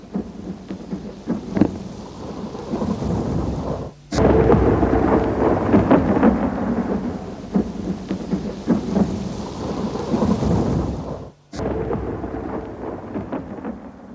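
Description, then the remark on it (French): A thunderstorm rages with steady, heavy rain and deep rolling thunder that swells and crackles, broken by two brief pauses before the downpour resumes. No one speaks. “L'orage avait cessé.”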